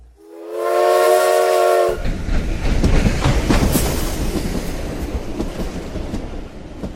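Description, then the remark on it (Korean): A loud, steady train whistle blasts for about two seconds, blown by the engine driver as the guard waves a flag, then gives way to the rumbling, clattering roar of the train pulling out of the station and gathering speed, which continues without pause to the end. “영무원이 깃발을 흔들자 기관사는 기적을 울려 화답했다. 기차가 역을 빠져나가고 속도가 점점 빨라지자 양 옆으로 들판과 나무와 산울타리, 소떼와 말떼가 휙휙 지나갔다.”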